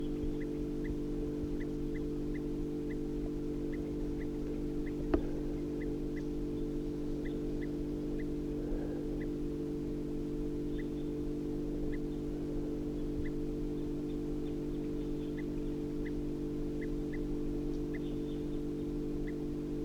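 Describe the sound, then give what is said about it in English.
Alarm calls of a crossbill perched in a medium-sized ponderosa pine, recorded at 7:52 a.m. about 50 yards from the road beside a truck: short, high, sharp chip notes repeated steadily throughout, fairly faint beneath a loud, steady, low droning engine hum. “And there's a crossbill perched up in the medium-sized ponderosa pine here, giving alarm calls.”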